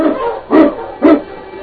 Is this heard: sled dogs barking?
yes